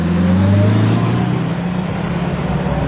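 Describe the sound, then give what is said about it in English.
A car engine hums loudly and steadily, rising briefly in pitch as it revs, with a low rumbling drone throughout and no voices, as the car drives back to Pacific Avenue in Atlantic City. “I got into the car out of the sauna and cranked up the grouchy air conditioning. I drove back to Pacific Avenue.”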